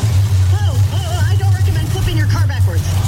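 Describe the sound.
A heavy monster truck engine roars at a monster truck rally in a loud, steady low drone throughout, with an announcer talking or calling out over the top, in a Progressive insurance advert with Flo and Jamie announcing.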